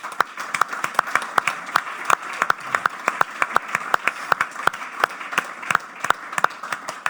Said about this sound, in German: Ganz großen Applaus für Carla Borger.